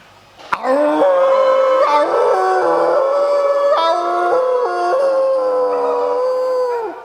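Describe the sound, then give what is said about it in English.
A person imitates a wolf howl into a group chat: one long, loud howl held for about six seconds, its pitch stepping up and down through several wavering shifts, with no other sounds around it. “So I'm going to do a howl into that.”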